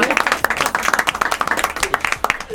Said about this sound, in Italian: Grazie, ragazzi. Vai, facciamo un applauso, per favore.